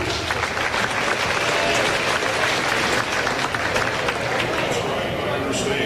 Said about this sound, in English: Let's give a round of applause for Wayne Horsley.